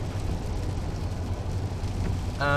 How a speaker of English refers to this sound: And because it's pouring like mad in Vancouver for the next 4 to 6 days... Not that I'm complaining about that, because we love Vancouver. Remember, the rain is just part of the Vancouver experience.